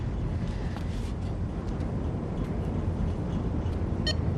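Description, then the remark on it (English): A cell phone scanning barcodes on boxes in a container at night gives a single short electronic beep near the end, heard over a steady low rumbling background with no voices. “In the container at night, Lainey scans barcodes on boxes with her cell phone.”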